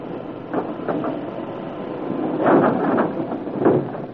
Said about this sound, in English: When that wall ahead slides back, you'll see a ramp going down. When we get the wall to slide back? Why, Charlie does it from the other side. Does he know we're here? Surely. There's a system of signals. There it goes. It'll be wide open in a second.